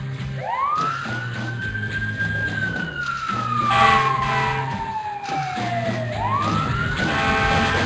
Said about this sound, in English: I gotta put the fire trucks on the Black Coffee Channel. I don't think we've ever put the fire trucks on a rock song.